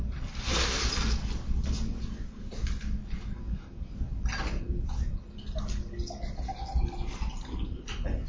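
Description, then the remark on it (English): Water pours steadily into a glass, a continuous splashing stream lasting several seconds, with a faint murmur of background noise underneath. “Could I get just a glass of water for a second?”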